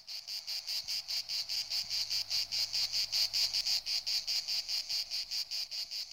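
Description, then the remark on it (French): Cicadas chirr loudly and steadily, a shrill buzzing drone pulsing in quick regular beats, several per second, unbroken throughout, with no voices. “Vers le solstice d'été paraissent les premières cigales.”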